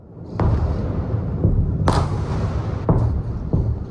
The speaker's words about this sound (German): Laute Explosionen hallen durch Tel Aviv. Zwischen Wolkenkratzern im Vorort Ramat Gan steigt eine Rauchwolke auf. Wieder schlagen ballistische Raketen in der Metropole ein. Wieder werden Wohnhäuser getroffen.